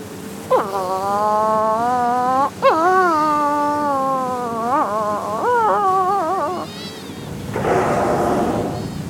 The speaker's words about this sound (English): Mutton birds. There are heaps along the coast here, hooting and honking.